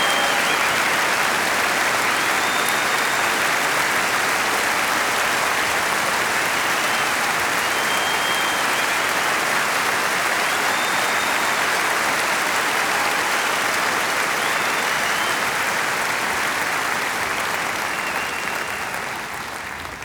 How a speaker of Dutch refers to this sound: Geef ze een enorme applaus voor de grootste fanfare van Nederland.